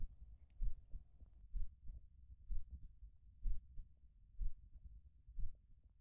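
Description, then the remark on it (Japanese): A slow, steady heartbeat thumps, low and muffled, heard while being hugged tightly. Soft beats land roughly every second over a faint warm hum, with no voices present. “ぎゅー ドキドキ、ぬくぬく。”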